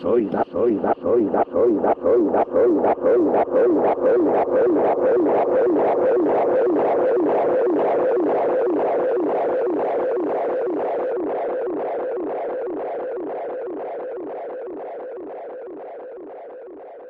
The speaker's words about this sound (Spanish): Así que nada, como regalo por haber llegado hasta aquí, os dejo con esta... paranoia con mucho eco. Simplemente un adiós.